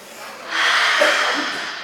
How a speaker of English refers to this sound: Are you ready? Big deep breath.